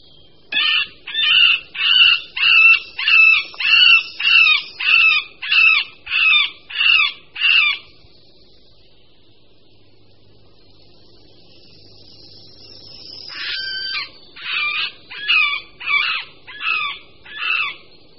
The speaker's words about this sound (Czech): Tok strakapouda prostředního začíná již v polovině února a samec se při něm ozývá mňoukavými či naříkavými zvuky.